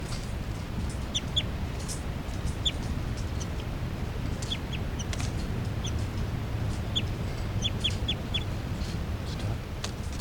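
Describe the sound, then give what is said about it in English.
Captive juvenile birds give short, high chipping flight calls in scattered clusters of two to four notes over a steady low rumble of background noise, with no one speaking, recorded at 8:59 a.m. “And the new juveniles are giving calls here, flight calls.”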